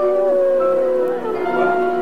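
A concert crowd of fans in Marseille howls like wolves during an intro of excerpts from the Giorgino film soundtrack, many voices holding long, wavering tones that overlap and rise and fall together, loud and continuous throughout.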